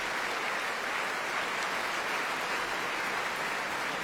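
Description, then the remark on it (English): Dense, sustained applause from a full house at the Royal Opera House as the singers and orchestra are applauded, a steady wash of many hands clapping at once with no break or change in intensity, and no voices heard. “Beats his chest in a gesture of thanks to the full house, which he now faces as he applauds the orchestra and his fellow performers.”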